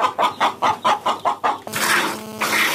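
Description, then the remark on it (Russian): Farm chickens at a rural house near Kostiantynivka, Donetsk region, Ukraine, cluck in a quick, steady run of about seven short calls, then a louder, drawn-out squawking cry takes over, clear with no talking. “Разом із дружиною і дітьми він приїхав до сільського будинку поблизу Костянтинівки Донецької області і вже рік розводить кіз, свиней і птицю.”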